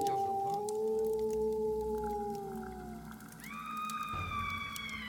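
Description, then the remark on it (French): Several wolves howl together outside in long, drawn-out, slowly sliding wails that overlap, with a higher howl joining partway through. The chorus is steady and fairly loud, with no talking. “Il y a des loups dehors !”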